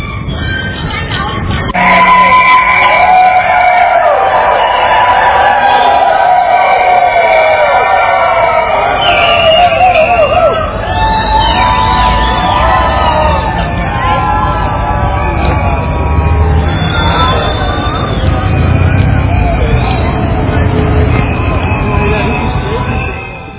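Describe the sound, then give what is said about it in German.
A dense crowd of protesters against a motorway through the Thuringian Forest argues heatedly with the transport minister in front of the Thuringian state parliament in Germany: overlapping voices arguing and shouting at once, loud, with a continuous outdoor din underneath that never lets up. “Vor dem thüringischen Landtag kam es zu heftigen Diskussionen mit dem Verkehrsminister.”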